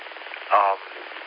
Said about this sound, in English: I got interrupted by, I think, my phone. Yes, somehow that answered a question I didn't ask. Oh, the modern conveniences of life.